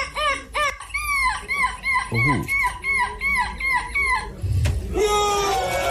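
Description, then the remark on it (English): A child imitates a screeching seagull in a competition in Belgium, letting out a rapid series of high, wavering cries in bursts, loud, with a brief low grunt and a rising squawk near the end. “Why is he so emotional about goal screeching?”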